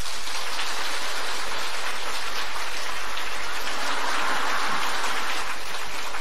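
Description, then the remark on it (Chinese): An audience applauds in a dense, steady wash of clapping that stays loud and even for about six seconds, with no voices over it. “从你们掌声的鼓励当中，我以后还会再写很开心 很开心。”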